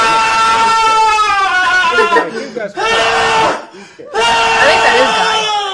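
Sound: group of people screaming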